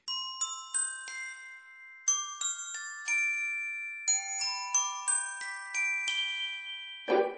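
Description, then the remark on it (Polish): Bells ring out a quick, tuneful sequence, one clear strike after another with tones overlapping as they fade. The ringing is bright, with no voices. “To ja tu może zostanę dzwonnikiem.”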